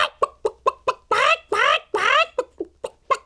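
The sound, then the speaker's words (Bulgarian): A hen clucks loudly, ever louder: quick sharp clucks, then three drawn-out cackling squawks, then more rapid clucks. It sounds like a human voice imitating the hen. “Зарадвала се кокошката и почнала още по-силно да куткодяка.”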